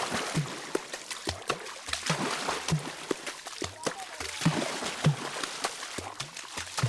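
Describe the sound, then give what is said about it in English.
Hands slap and cup a water surface in a quick, rhythmic pattern, producing deep hollow plops and splashy smacks, with faint voices in the background: water drumming played by the Baka Forest People of Cameroon. “You're hearing Water Drums. It's a recording of the Baka Forest People of Cameroon.”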